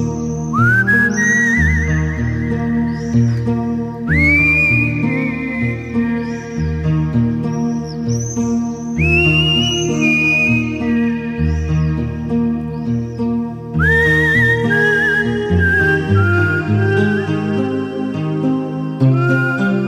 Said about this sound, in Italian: E sono sicuro che ora mio padre, da lassù nel cielo, finalmente ride e fischia come solo lui sa fare.